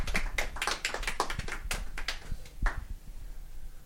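A short burst of audience applause after a talk: scattered, sharp hand claps overlapping for about three seconds, then thinning out and fading to a quiet hush. Moderately loud, no voices.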